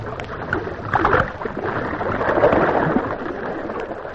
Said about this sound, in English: Too much splash, I fear.